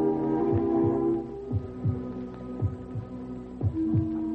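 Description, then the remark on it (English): A steady heartbeat, soft low double thumps repeating about once a second, sitting over a constant electrical hum with no voices. “Heartbeat? Stronger.”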